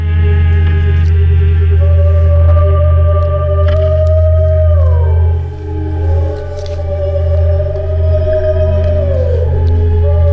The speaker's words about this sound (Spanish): que hace música bajo el agua, escuchen